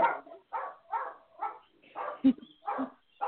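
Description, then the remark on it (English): Dogs barking in a steady run of about seven sharp, fairly loud barks, spaced roughly half a second apart, with no talking over them; the dogs belong to a caller and are heard over the phone during a live call-in show. “has dogs”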